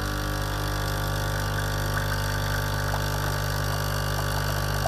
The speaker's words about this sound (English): It's a coffee machine. Yes, of course. One of those ones you put the little potties in. Okay, a Dolce Gusto, ladies and gentlemen. Emma puts this forward as Kent's noisiest appliance.